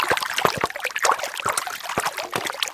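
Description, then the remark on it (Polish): Water trickles and burbles steadily, a small unfrozen stream meandering through a forest into a lake on a sunny afternoon, with irregular splashy gurgles and soft dribbling over a continuous wash of flow. No one speaks. “Meandruje tutaj ta woda. Dopływa do jeziora.”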